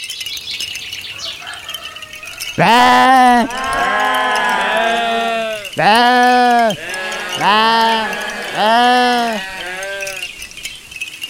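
A flock of sheep bleats loudly, with about five drawn-out, wavering calls in quick succession, some overlapping, after a brief quiet start.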